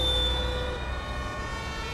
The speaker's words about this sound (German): Gleich fahren sie hier vorbei. Oh, das ist aber ganz schön viel Tatütata. Mhm. Und Blaulicht. Ein Polizeiauto.